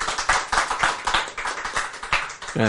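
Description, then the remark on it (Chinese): An audience bursts into brisk, steady clapping, many hands overlapping in a dense, even patter that holds for the whole moment, with a brief voiced cheer rising at the end. “拍手。”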